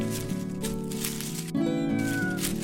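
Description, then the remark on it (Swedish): A cat outside a tent meows insistently, wanting to come in, drawn-out and wavering, with a brief pause before a second, higher cry rises and trails off. Fairly loud, no other voices. “Det är bara katten som vill komma in, säger Bubblan.”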